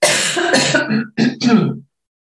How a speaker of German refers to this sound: Und Achtung, Husten.